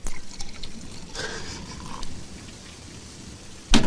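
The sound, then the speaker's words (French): Fizzy tonic water is poured in a steady, hissing stream for a few seconds to make a gin cocktail, with carbonated crackle throughout, ending in a sharp clink near the end. No one speaks. “Une rivière de tonique.”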